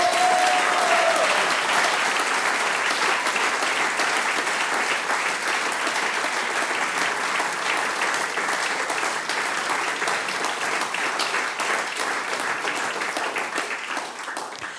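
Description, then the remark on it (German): Sustained audience applause, a dense steady wash of many hands clapping, loud, continuing for the whole stretch and tapering slightly at the end; the applause is dedicated to a man being thanked. “Der Applaus gehört jetzt dir”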